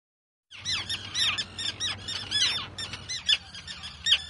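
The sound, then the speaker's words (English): A dense chorus of terns squawking and calling over one another at a colony on islands off the coast, harsh overlapping cries from many birds, continuous and busy with no speech. “Now, these birds, they all know you, but they never met me. Are they a little suspicious? Yeah, they're very suspicious.”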